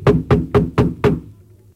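Five firm knocks on a wooden door in a steady, even rhythm, close and fairly loud, followed by a brief low resonant tail as the sound fades.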